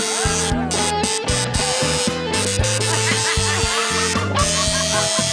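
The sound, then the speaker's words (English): Electric hair clippers buzzing loudly and steadily as a clipper solo, their drone shifting in pitch in short stepped bursts like a melody, layered over a busy musical backing with no voices. “Your buzzing clippers sending chills up through my spine and over my scalp.”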